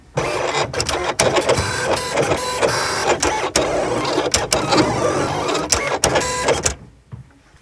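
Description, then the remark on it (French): A cutting machine run with Silhouette software, its blade mounted on the carriage, cutting paper: a steady whirring motor hum, broken by sharp rhythmic clicks as the carriage shifts, then stops abruptly near the end. No one speaks. “Écoutez le bruit de la lame qui découpe le papier.”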